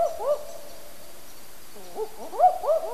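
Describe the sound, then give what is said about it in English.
A pair of owls, disturbed in their territory, call back and forth in an excited duet, with overlapping rising and falling hoots, the male deeper and the female higher and quicker, clear with a brief lull in the middle. “The second clip is of a pair of owls giving their characteristic excited duetting calls when they're disturbed in their territory.”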